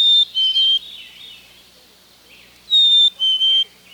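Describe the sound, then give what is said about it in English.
A chickadee's clear whistled spring song, two pure notes with the second slightly lower, sung twice with a pause between phrases, loud over a quiet background. “The familiar chickadee-dee-dee call, made by both males and females year-round, has several social functions, but the whistled spring song is usually sung by males only, to declare a territory and to attract a mate.”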